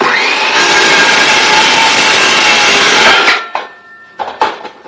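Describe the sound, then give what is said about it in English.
A loud, steady rasp of a saw cutting through a clamped wooden board runs for about three seconds, then stops, followed by a few scattered knocks and light handling sounds. “And I gotta get the clamp. And we cut.”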